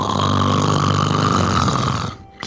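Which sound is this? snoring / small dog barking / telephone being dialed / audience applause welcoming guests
snoring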